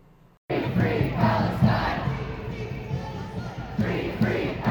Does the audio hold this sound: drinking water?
no